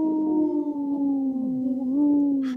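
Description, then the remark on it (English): A single wolf holds a long, steady howl with a faint wavering pitch that lifts slightly near the end, loud with no voices present. “The dog, he looks like, or the wolf, he looks like he takes another little, like, short howl.”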